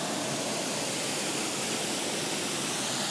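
Water of the Manzanares River in Madrid rushes steadily over a small weir, a mini dam with a pedestrian bridge below it, making a dense, continuous roar of falling water with no pauses or voices.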